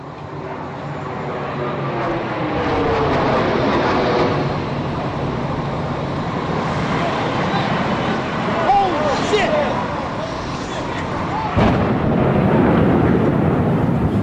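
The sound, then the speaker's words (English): A loud, sustained roar and rumble of an airplane crashing into the World Trade Center on 9/11, heavy, with a fresh surge of noise near the end and voices underneath. “That sounded like a plane crash.”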